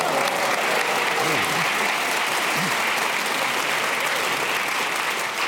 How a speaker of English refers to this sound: That round of applause was deserved, Stephen